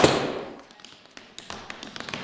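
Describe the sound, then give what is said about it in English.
Tap dance steps: one sharp, loud strike opens, then a run of lighter brushes, shuffles and slaps clicking and scraping in an uneven, quickening rhythm, with no voices. “Well, a brush would be like that's just what we work with, a brush, shuffle, slap, riff.”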